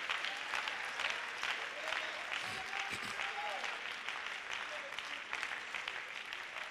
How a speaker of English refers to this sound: Let's give the Lord a clap offering. Let's give him another clap offering.